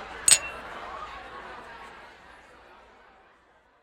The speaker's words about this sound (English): She raises her glass to his.